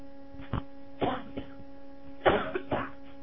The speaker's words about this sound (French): Je tousse beaucoup, une seconde.